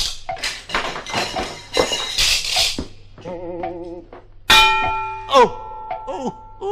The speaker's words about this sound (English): Oh, say, watch out for that swinging pendulum. We have to go through between ticks. It's very annoying if it hits you on the head.